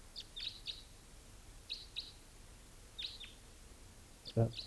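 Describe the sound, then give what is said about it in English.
Short, high-pitched chirps from two yellowish birds come in small clusters, sharp tweets with gaps between them, followed near the end by a brief lower buzzy burst, all faint over a quiet background hiss. “A bird there.”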